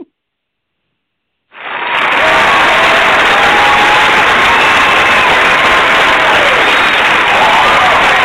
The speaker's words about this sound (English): Just giving you an applause.